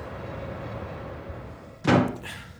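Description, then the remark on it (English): A front door bangs shut once with a solid thud, followed by a brief rattling tail, after a quiet stretch of low hum. “I'll check the front door.”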